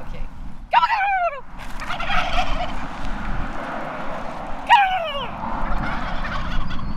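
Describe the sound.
A person imitates a turkey's gobble twice to attract the attention of turkeys, two loud, rapid, warbling calls a few seconds apart, set against steady outdoor background noise.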